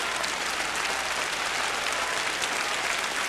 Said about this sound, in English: Cries of bravo and great applause from the Orchestra Hall audience and the Chicago Symphony.